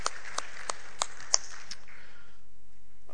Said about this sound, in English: that was just up here and leading worship this morning, quick round of applause for her and the band. Great job, worship team.